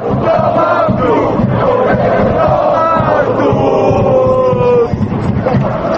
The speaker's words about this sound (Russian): все это вызвало гнев болельщиков, которые теперь во время матчей скандируют речевки, содержание которых по отношению к главе кабинета министров не назовешь доброжелательным.